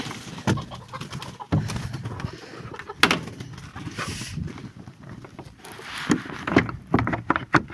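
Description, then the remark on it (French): A small wooden henhouse door is shut after the hens go in, banging and rattling with several sharp knocks and clatters over a few seconds, with birds murmuring softly in the background. “Voilà, on a fermé les poules.”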